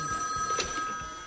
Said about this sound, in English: Police also noted how terrible Notman's ringtone was. So the drug dealer had a bad ringtone.